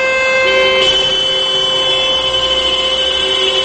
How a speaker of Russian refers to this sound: А сегодня в Перми состоялась акция памяти «Сигнал скорби». В 12 часов по местному времени практически весь город встал, и в течение минуты автомобилисты подавали звуковой сигнал.